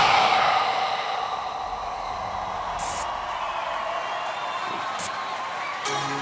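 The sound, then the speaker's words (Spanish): An audience on the TV show Noche con las Estrellas applauds and cheers for a performer in a dense, steady roar, loudest at the very start and then holding steady for about six seconds, with a few sharper whoops cutting through. “Un aplauso bien fuerte”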